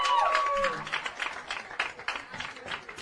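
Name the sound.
audience clapping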